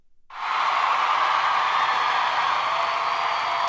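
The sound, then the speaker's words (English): A crowd applause and cheering effect cuts in abruptly after a brief silence, a dense, steady wash of clapping and crowd noise that holds at an even, loud level throughout. “Okay, Elaine, cue the crowd.”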